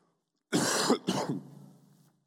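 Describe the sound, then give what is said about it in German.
Two harsh, close-up coughs in quick succession, the second trailing off into a rough, raspy throat sound, with no speech around them. “Entschuldigung, dass ich hier den Stillbutton nicht so schnell finde, dass ich beim Husten stillschalten kann.”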